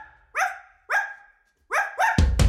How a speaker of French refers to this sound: Laissez-moi vous présenter Adrien le chien.